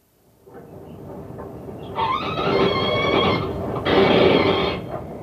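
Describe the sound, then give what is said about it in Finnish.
A mink, killed by having its neck twisted after being stunned with gas, screams in two long, shrill, harsh bursts, the second louder, over a steady rumbling, scuffling noise that starts before the cries and continues after them. “Tässä huusi minkki, joka tapettiin kaasulla tainuttamisen jälkeen vääntämällä niska poikki.”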